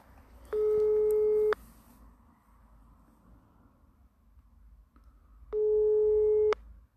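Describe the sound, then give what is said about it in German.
A telephone ringback tone heard over a speakerphone while calling a Werder expert: two steady, mid-pitched one-second beeps about five seconds apart, with a faint low hum in the gaps. “Und wie vorhin, es klingelt wieder.”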